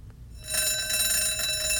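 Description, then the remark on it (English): Alarm sound two of a clock: a continuous metallic bell ringing, like an alarm clock or school bell, starting abruptly after a brief quiet moment and sustaining loudly and evenly with a bright, buzzing, harmonic-rich tone. “She reminds me of a school bell.”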